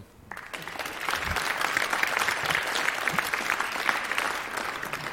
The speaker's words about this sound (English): I want you to give them a welcome applause. Please, go ahead.